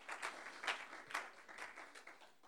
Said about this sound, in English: Oh, praise God. Somebody clap your hands to the Lord right now.